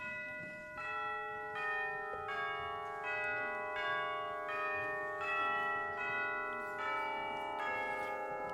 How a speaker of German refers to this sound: Goldenes Sonnenlicht, himmlischer Himmel, süße frische Luft, bim, bam, ding, dong, fröhliche Glocken, herrlich, herrlich.